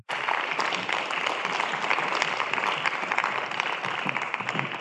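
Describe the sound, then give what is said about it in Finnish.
An audience at a book fair, at the Veturilava stage, applauds warmly to welcome an interview, a dense, steady wash of many hands clapping that holds at an even level for several seconds without any talking. “Annetaan heille oikein lämpimät aplodit.”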